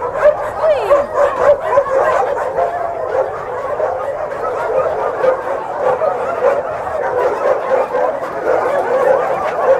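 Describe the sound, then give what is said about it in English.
Many dogs bark, yip and whine at once in a dense, continuous chorus, loud, with sharp overlapping calls throughout and no pause, as some of the dogs are given food. “Oh, here's some dog is getting food.”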